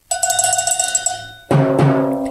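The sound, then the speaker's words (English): A cowbell is struck by radio host Michael Savage on his show The Savage Nation in a quick, steady run of bright metallic clanks, then a heavier, louder hit rings out with deeper sustained tones. No one speaks. “I have the drums and the cowbells here.”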